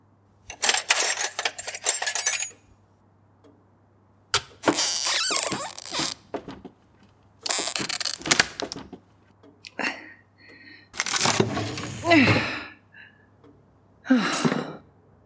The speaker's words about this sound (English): Sorry I broke your drawer. Joe's drawer. Oh, thank you, dear. I can fix it.